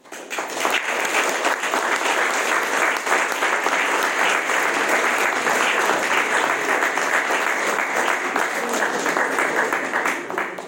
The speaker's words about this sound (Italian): Bisogna dare spazio a questo applauso perché è importante.